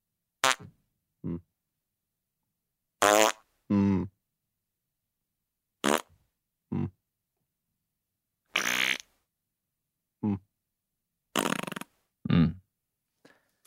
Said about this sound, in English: That's four farts by my count. Was that four? Can we hear it again? It's five.